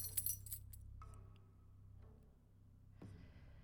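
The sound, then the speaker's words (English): A bunch of door keys jingles and clinks in a quick burst, metallic rattles scattered over the first second, then quieter handling with a low hum underneath. “It is kind of difficult to open the door without the keys, isn't it?”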